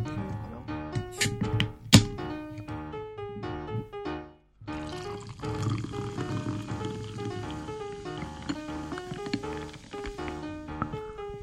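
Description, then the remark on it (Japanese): A drink glugs into a glass over ice, fairly loud, with a sharp clink of ice early on, a brief pause, then steady pouring whose pitch rises as the glass fills. “てか氷入ってるからさ、氷の音が入っちゃうねこれね。”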